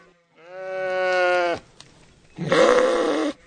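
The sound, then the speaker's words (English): A sheep, one the artist van Frankenhuizen uses for painting, bleats twice in a barnyard on a farm in central Michigan, first a long, steady, clear cry, then after a short pause a harsher, raspier bleat, with no other sounds around them. “walks through the barnyard past the sheep and horse the artist uses for painting.”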